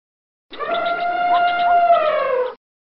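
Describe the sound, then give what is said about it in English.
An elephant trumpets once, a loud, brassy, sustained blare lasting about two seconds that wavers slightly and sags in pitch toward the end, with no other sounds around it. “Look, over there, an elephant is looking for his tea.”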